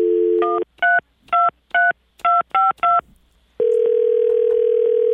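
A dial tone hums briefly, then about seven quick two-tone keypad beeps sound in an uneven rhythm as a telephone dials to call back someone who hung up, followed by a long, steady electronic tone. No one speaks.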